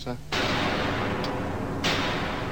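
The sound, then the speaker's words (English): A brief voice gives way to a loud synthesized explosion: a sudden burst of harsh noise that roars on without decaying, then surges again in a second blast near the end. “Right, well, there's a fairly normal explosion.”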